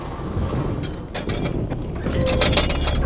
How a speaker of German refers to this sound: Was ist das? Wir sind aufgelaufen.